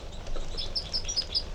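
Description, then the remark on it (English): Two type 3 female birds in a direct confrontation trade short, high tooting calls, about six quick notes in an uneven series with harsher fight calls mixed in, fairly faint over a steady low background rumble. “So, recording 5 minutes later, and there's another interaction between the two females with a toots and fight calls.”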